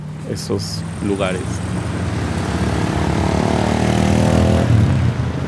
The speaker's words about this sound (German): Früher habe ich mehr Reiher gehört, große Vögel und ihren Flügelschlag. Jetzt werden sie vom urbanen Rauschen übertönt.